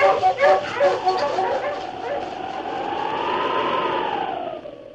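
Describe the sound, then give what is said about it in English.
Sled huskies, with lead dog King, bark in a rapid, overlapping flurry of yelps as they are urged on, then one sustained howl rises and falls in a long, wavering wail before trailing off. No one speaks. “On, King. On, you huskies.”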